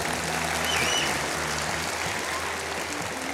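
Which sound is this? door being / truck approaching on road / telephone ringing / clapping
clapping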